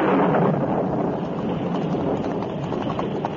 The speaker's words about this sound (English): A short time after the Lone Ranger and Tonto started to help in the search, a sudden thunderstorm broke.